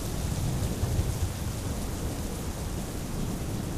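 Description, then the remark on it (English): Heavy rain pours down steadily while low, rumbling thunder rolls underneath, a dense and continuous storm sound with no voices present. “With the storm still raging, they all stayed in the vehicle, however, waiting and hoping that soon things would calm down.”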